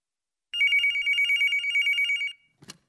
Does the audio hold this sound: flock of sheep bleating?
no